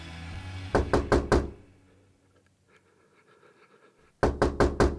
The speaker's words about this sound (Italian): E mi svegliai perché stavano bussando alla porta della mia stanza. Era l'alba, l'alba del 19 febbraio. Alla porta c'erano gli altri due miei colleghi, guardiani della selvaggina.